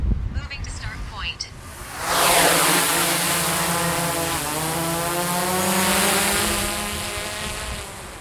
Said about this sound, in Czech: Jak už bylo změněno, tak letat ve výšce 100 metrů, při rychlosti 12 metrů za vteřinu. Teď se nahrají data do dronu a můžeme odstartovat.